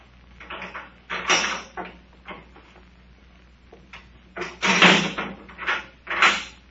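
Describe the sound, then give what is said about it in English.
A door opens as a female prisoner with tied hands is brought in, amid a run of wooden clunks and rattles, with two louder thumps near the end; no one speaks. “She is just outside the door.”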